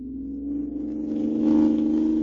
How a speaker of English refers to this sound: Hoo-wee! Looky at us go! Leaving it behind like it was standing still. This car's got an engine in it, all right.